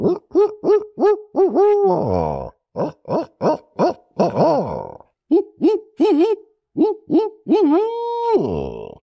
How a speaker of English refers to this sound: And it was just this sound that was always on the landscape. In the evenings, barred owls would call from the bottomland hardwoods.